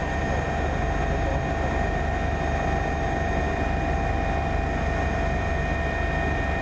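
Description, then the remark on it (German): A rescue helicopter's engine and rotors drone steadily and loudly throughout as it flies to Frutigen in the Bernese Oberland, Switzerland, to fetch a heart attack patient, a constant roar with a high turbine whine and no speech. “Kaum ist der Heli im Hangar, wird Riga 3 wieder gebraucht. Es geht nach Fruttigen im Berner Oberland.”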